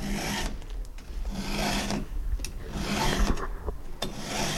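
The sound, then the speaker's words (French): Steady rasping file strokes as a carpenter sharpens a chainsaw chain, each stroke a bright, gritty scrape repeating in an even rhythm of about one per second, with no voices. “Je suis en train d'affûter une tronçonneuse, une chaîne de tronçonneuse.”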